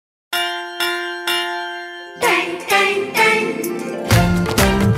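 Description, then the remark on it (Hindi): Three loud, ringing clangs of a school bell in quick succession, the metallic tone lingering, before lively music with drums and instruments starts up and carries on. “सुनो घंटी बजी स्कूल की, चलो स्कूल तुमको पुकारे।”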